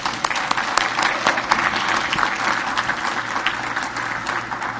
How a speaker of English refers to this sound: Give our kitchen people a big hand clap.